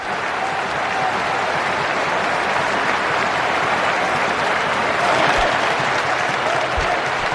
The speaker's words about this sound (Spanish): Y minuto 10 se han parado todos. Y han empezado a aplaudir, el árbitro también en la grada, el campo estaba lleno en Copenhague, y han empezado a aplaudir en memoria del dorsal 10, en homenaje a Eriksen, Este ha sido el momento.